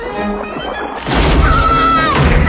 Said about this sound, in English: It follows them, crunching up the floorboards.